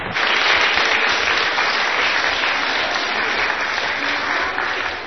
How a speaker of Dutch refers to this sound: Ja, een groot applaus.